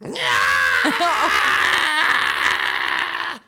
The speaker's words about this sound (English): He's not happy. He screamed.